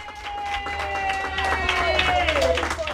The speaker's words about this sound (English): 27 hours after the polls closed Tuesday night, a cheer went up at a Broward County election warehouse. Workers had finished their final tally of results hours before the state deadline, a sign of success